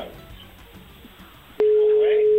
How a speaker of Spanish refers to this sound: Ahí está, dando tono.